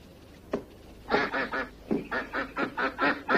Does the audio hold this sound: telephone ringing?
no